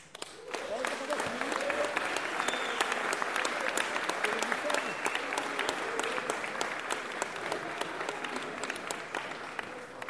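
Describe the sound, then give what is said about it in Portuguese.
Sustained audience applause, a round of applause for the Samba da Alegria project: a dense crackle of many hands clapping steadily for about ten seconds, loud and even throughout, with faint voices mixed into the crowd noise. “Eu queria bater uma salva de palmas.”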